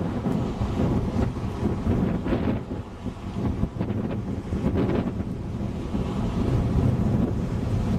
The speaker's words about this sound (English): You see the waves beating up against the rocks. Really, really large waves. It's really quite gusty. But of course the rocks act as a breakwater, which is what they are supposed to do.